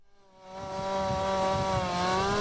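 A chainsaw engine revs up and holds a steady, loud, buzzing whine, its harmonics sliding slightly as it bites into wood, with no voices present, during cleanup after a deadly tornado in Ohio.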